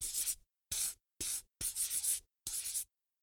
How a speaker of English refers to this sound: Put a circle round it with a green pencil and colour it in with a yellow pencil.